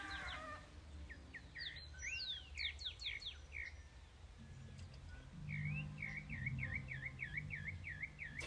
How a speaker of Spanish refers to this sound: Me gusta mucho ese concierto, el canto de esos pajaritos que varía tanto, me encanta.